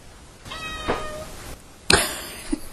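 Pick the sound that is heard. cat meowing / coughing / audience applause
cat meowing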